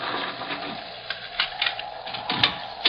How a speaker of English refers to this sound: Oh, the Lord be thanked. One moment, gentlemen. I'll unbar the door.